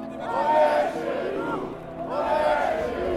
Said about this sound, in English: A chant of, "This is our home," starts elsewhere in the crowd and picks up in volume. Then it's, "Get on the plane."